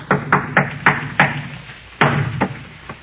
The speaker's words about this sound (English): See? Hear those shutters banging? There's no wind out there.